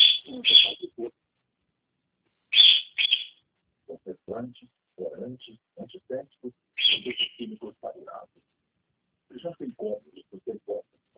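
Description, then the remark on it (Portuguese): A small pet bird, maybe a cockatiel, gives three short bursts of high, shrill chirps a few seconds apart, while someone talks in between. “Tem um passarinho aí, né? É calopsita?”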